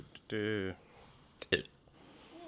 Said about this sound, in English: I'm sorry. I had a burp.